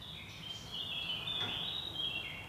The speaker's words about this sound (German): Das ist diese Mönchsgrasmücke. Die ist neu in meinem Garten.